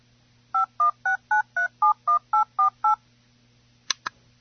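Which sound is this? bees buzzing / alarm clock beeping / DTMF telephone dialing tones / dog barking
DTMF telephone dialing tones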